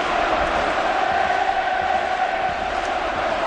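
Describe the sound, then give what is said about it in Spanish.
A large crowd of Atlético de Madrid football fans at the Wanda Metropolitano stadium, with the team eliminated from the Champions League, roars in a steady, dense wash of voices, loud and unbroken throughout, with occasional shouts rising above the sustained din. “Este es el sonido del Wanda Metropolitano con el Atlético de Madrid eliminado de la Champions.”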